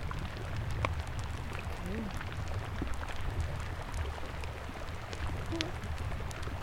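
Melting drifting ice crackles with a steady scatter of sharp, irregular clicks and pops, some brighter than others, over a continuous low rumbling hum. No one speaks.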